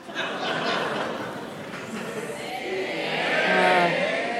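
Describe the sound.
A live crowd in Chicago shouts the answer "A" to a quiz question all at once, a loud, sustained jumble of overlapping voices with some laughter mixed in, swelling louder toward the end.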